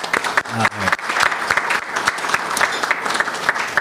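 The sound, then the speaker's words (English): A crowd gives a round of applause to the Hong Kong Economic and Trade Office at an Alaska World Affairs Council luncheon event: dense overlapping claps forming a loud, sustained wash of sound with a few brief vocal bits near the start. “I think a lot of that's due to the Hong Kong Economic and Trade Office, who's been very generous in helping us to put on this event, providing the luncheon, so we'd like to give a round of applause to that organization.”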